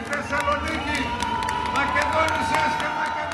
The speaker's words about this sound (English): A few people clapped and cheered when leader Andonis Samaras strode to the podium and said that he would bring growth and justice to Greece.